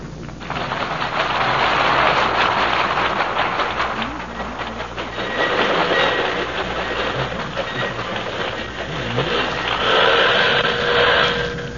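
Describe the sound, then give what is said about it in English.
A train pulls into the station at Racine, Wisconsin, with a steady rumble and rhythmic clatter of wheels, brakes hissing and squealing faintly as it slows, loud throughout. “a train is pulling in, bringing two people for a visit to the factory”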